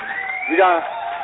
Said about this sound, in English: We got you an applause for that